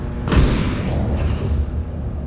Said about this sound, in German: Also oben diese entfernten Schüsse, die da so rumhallen, unten summen so diese Neonlampen